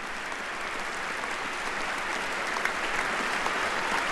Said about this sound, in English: The president facing a chamber, all on their feet, all applauding the commander-in-chief. And the president seems to be taking this in.